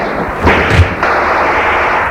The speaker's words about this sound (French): On entend des cris, des coups de feu.